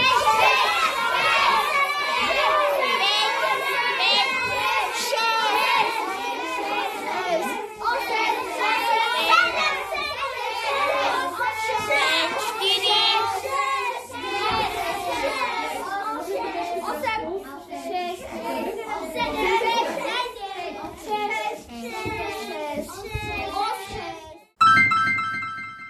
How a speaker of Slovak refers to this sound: Bolo to miestami hlučné, ale zároveň veľmi, veľmi príjemná akcia. Veľmi sa nám páčila tá dravosť detí pri súťažiach, ktorým si vlastne potom ako cenu za uhádnuté písmena dávala.